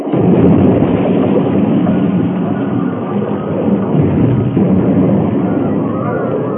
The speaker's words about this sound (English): Cars left the rails at the turn and rolled over and over until they crashed into the great boulders that lined the slope.